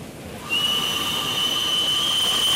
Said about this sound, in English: prepares to sound the whistle.